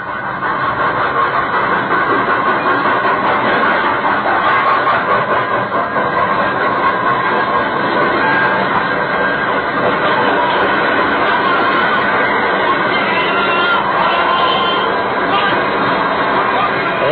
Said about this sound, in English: This story properly begins on Christmas night, 1918, 19 years ago. A leave train was just coming to a halt in the station at Villefranche.